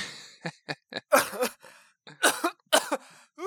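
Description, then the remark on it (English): Sharp sneezing: a few quick catching breaths, then three loud, explosive bursts of air spaced about a second apart, with no talking. “Bless you.”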